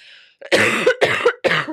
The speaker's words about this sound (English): Excuse me. I just need a good old cough.